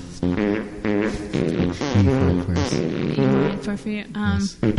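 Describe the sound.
A voice imitates farts with a string of buzzy, sputtering mouth noises, a series of loud, rough bursts with shifting pitch, each roughly under a second long.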